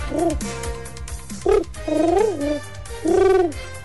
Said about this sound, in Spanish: Tenemos a una paloma aquí en The Waves para preguntarle qué opina